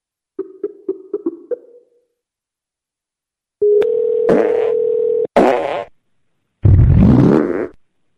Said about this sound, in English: Farts.